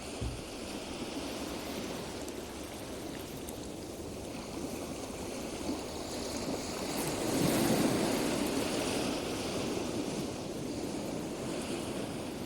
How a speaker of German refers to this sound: Das Meer rauscht